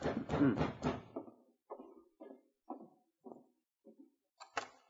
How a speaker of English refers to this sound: It was very late, and the corporal had put his book aside and started to bed when there was a knock at his door.